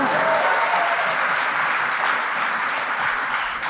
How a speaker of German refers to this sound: Applaus für die Zu-Spät-Kommerinnen, bitte.